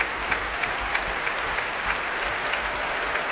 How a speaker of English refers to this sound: Well, the audience here are clapping and stomping. They want Hélène Grimaud back on stage.